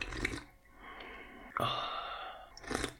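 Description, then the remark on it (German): A drawn-out, airy slurp of hot coffee, a long hissing sip with a sharp onset midway, framed by short breathy exhales at the start and end. No talking. “Geht das eigentlich auch ohne Schlürfen?”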